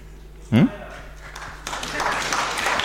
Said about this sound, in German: Hat ein bisschen gedauert, bis der Applaus kam, ne? Ja, aber ich habe auch genug gebettelt.